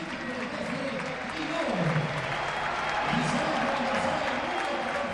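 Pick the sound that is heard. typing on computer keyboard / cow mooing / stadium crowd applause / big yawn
stadium crowd applause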